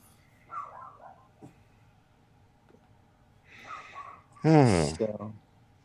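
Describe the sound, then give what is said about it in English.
Dogs whine and vocalize, with a brief high whimper early on, some snuffling, and a louder, drawn-out yowl near the end. “I think the dogs may outlast us.”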